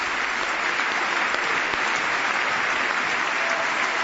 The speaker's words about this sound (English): The most extended applause we've had so far tonight for Corey Remsburg, who gives a thumbs up to the crowd and now a wave.